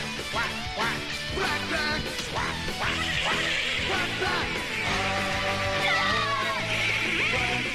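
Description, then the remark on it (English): The upbeat theme song of the Disney cartoon Quack Pack, about Donald Duck and his nephews, plays loud and full, with a brassy band and repeated duck quacks woven through the music over several seconds. “You might remember the theme song. I bet you don't. Quack, quack, quack, quack.”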